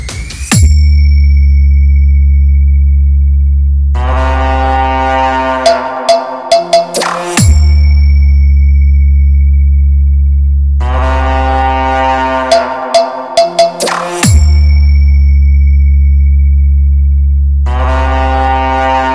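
Loud synthetic test tones from a DJ sound check, a high-frequency check, repeat in two cycles: a deep, sustained booming drone layered with thin, steady high-pitched whine tones and bursts of buzzy harmonics, with no speech.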